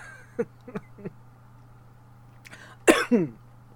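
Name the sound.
coughing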